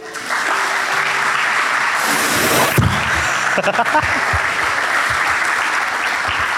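A crowd breaks into steady, dense applause that fills the room for several seconds, swelling briefly in the middle before continuing at an even level to the end.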